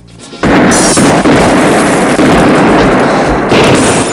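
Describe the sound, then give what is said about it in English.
A dense, loud barrage of gunshots erupts after a brief quiet start, sharp cracks piling into continuous booming fire with no voices, as a goon spots Kersey in a roller rink and shoots at him. “Kersey ducks as one of the goons spots him and shoots.”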